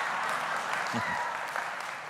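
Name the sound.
audience clapping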